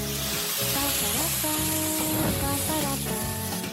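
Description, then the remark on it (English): A pan sizzles loudly and continuously for a few seconds as a dish is flambéed, a steady hiss of food cooking in hot fat, with tuneful background music playing underneath and no one speaking. “This is gonna go like a big fireball.”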